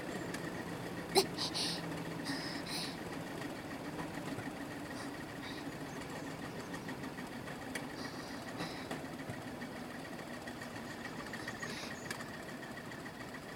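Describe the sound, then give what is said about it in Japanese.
A rail trolley's engine runs in a steady, low droning hum with a faint mechanical rattle throughout, broken by one brief sharp click early on. “トロッコもやっぱ鉄道車両なんだね。加速より減速の方がずっと難しい。”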